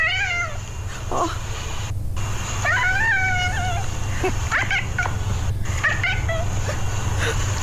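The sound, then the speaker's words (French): A pet cat named Rufus, being teased by its owner, makes several warbling, inflected meows that rise and fall like speech syllables, with short pauses between calls over a steady low hum. “Voyons, il est donc bien mignon, ton chat Rufus.”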